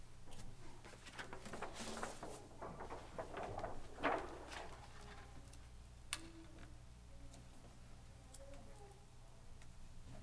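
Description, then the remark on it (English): A woodpecker taps a few times in the woods, sparse and irregular, each knock sharp, over a steady outdoor background with faint rustling and bird sounds. “One of the privileges of living in the woods with my family is being able to watch the woodpeckers at work.”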